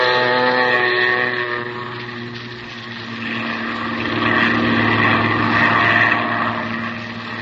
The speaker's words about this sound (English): Then you wade out to the plane. And a few minutes later, you're skimming across the bay, headed toward the Gulf.